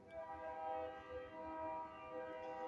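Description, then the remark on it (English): A freight train rumbles past while its horn blares in a long, steady, loud chord that holds for the entire stretch, with low rolling rumble underneath and no voices. “I know this is, what, the second train since this broadcast started?”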